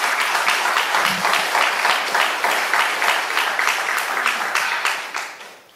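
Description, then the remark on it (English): A crowd applauds steadily, dense overlapping claps filling the air at a loud, even level for several seconds before fading out at the end. No one speaks over it. “And can we just give him a round of applause right now?”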